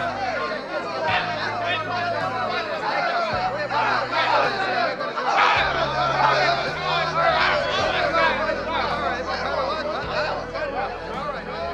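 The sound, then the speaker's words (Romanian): A crowd of people murmuring together in a steady, dense hubbub of overlapping voices, with no single speaker standing out, and a few faint chuckles mixed into the chatter throughout. “O mulțime de oameni au văzut scena și l-au urmat până la groapa cu lei.”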